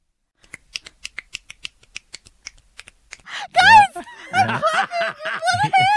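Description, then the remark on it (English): A quick, uneven run of light, sharp slaps from a person clapping with one hand, about a dozen and a half in three seconds, followed by people laughing and talking loudly. “I'm clapping with one hand.”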